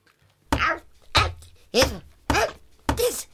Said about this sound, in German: das mit dem Schlagen funktioniert nicht. Gib mir mal den Pfannenwender. Will sagen, den Bläuel.